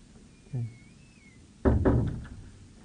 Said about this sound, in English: The door makes too much noise, so I have to start over again.